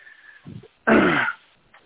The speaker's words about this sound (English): And anyhow, my dogs are barking. Don't want that.